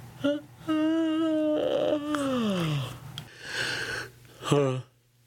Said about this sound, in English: Hold on. Yawn break.